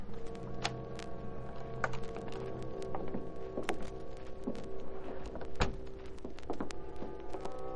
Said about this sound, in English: the noise at the rear door in back of the store as Britt Reed opened it with his special key